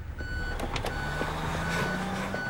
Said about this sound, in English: A lorry is backing across the entrance to the street.